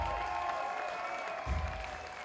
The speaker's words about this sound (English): Let's hear it for the bartenders, man. Let's have a big round of applause for Justin Mallon and St. Mark's Social.